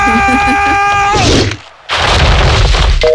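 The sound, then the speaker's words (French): Loud, heavy banging as someone kicks at a reinforced (armoured) door while trying to get into their home without keys, a rough crashing din that breaks off briefly and resumes, following a steady electronic tone at the start. “Mais je vais la défoncer la porte.”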